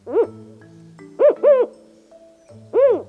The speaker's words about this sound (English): This one is a Mexican spotted owl. Mexican spotted owls are large, up to 19 inches tall. They're brown and, unsurprisingly, spotted.